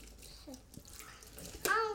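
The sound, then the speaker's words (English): Water runs steadily from a tap while dishes are rinsed, with a soft, splashy hiss, and a child's voice briefly pipes up near the end. “Let's quickly rinse those off. You do the next one, I'll rinse.”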